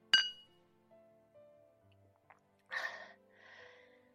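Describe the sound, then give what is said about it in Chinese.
Two glasses clink once in a toast at a restaurant with a bright, briefly ringing chime, followed by quiet breathy sounds like sipping and exhaling. No one speaks. “来，咱们干杯，敬我们未来的美好生活。”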